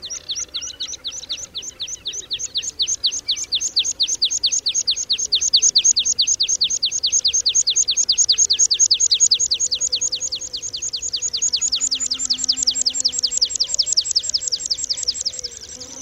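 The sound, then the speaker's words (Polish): A meadow pipit sings a long, steady series of rapid, high-pitched notes repeated evenly for the whole stretch, clear, with faint background noise and no talking. “Piosenka Świergotka Łąkowego to długa, jednostajna seria szybko powtarzanych, wysokich dźwięków.”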